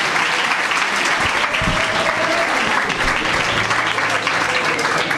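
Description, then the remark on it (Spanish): An audience applauds the school's directors steadily for several seconds, a dense, loud wash of many hands clapping at once with no pauses or individual claps standing out. “Un aplauso para ellos, por favor, a los directores del centro.”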